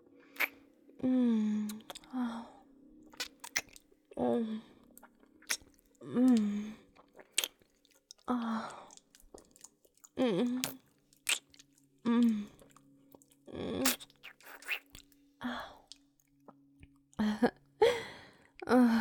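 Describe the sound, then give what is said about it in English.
A warm, wet tongue licks and slurps in repeated irregular bursts over about twenty seconds, mixed with soft voiced hums between the moist smacks. “My warm, wet tongue licking and slurping against your sensitive little pee hole.”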